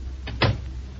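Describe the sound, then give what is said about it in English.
A door shuts with a brief scraping swing, then a single solid thud that carries a low boom. No one speaks, and only a steady low hum remains afterward. “Shut the door, Jack.”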